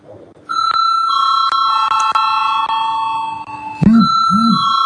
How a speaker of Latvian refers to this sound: Tātad mēs balsojam par likumprojektu grozījumu augstskolu likumā pirmajā lasījumā. Lūdzu zvanu.